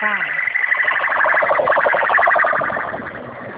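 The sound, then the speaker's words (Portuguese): A police car siren on the street, loud and steady, its piercing tone rising at first and then warbling rapidly throughout, over a muffled layer of street noise. “Um carro de polícia aqui que eu tô na rua.”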